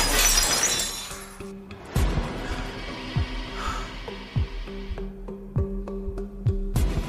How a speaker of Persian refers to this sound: پارچ آب رو برمیداره و آب میخوره. پارچ رو توی در پرت میکنه.